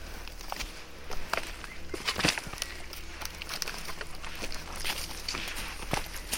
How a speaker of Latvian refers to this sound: staigāju pa krūmiem, kas ir manā augumā. Un mēs jau ejam gandrīz pusotru stundu, maldamies pa mežu, pa pļavām, pa gravām, pa izcirtumiem.